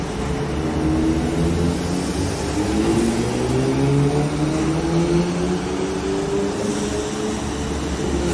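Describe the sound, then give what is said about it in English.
An Audi S3 engine, tuned by Top Gear Tuning in Egypt with a stage 2 plus engine tune, stage 3 TCU tune, intercooler, intake and APR downpipe, revs hard on a dynamometer in a power test: a loud, steady roar whose pitch climbs gradually over several seconds, with dense mechanical and roller noise underneath and no talking. “in Egypt and would like to show you this Audi S3 that we're working on today with Top Gear Tuning.”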